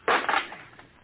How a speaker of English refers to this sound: I'll break that shutter, Captain. We'll have some light.